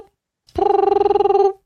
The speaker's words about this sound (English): nobody picking up the phone? Huh? The phone's ringing. You gotta pick it.